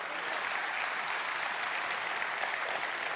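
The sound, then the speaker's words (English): Sustained, dense applause from an audience, a steady wash of many hands clapping at once with no gaps, fairly loud and even throughout, with no voices standing out. “Good gosh, if you ain't clapping, check your pulse.”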